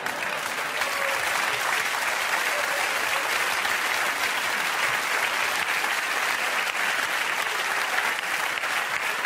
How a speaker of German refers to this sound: Und das müssen Sie sich auch mal überlegen als Publikum. Glauben Sie, das geht ewig so weiter, dass Sie da hocken und ein wenig klatschen und lachen?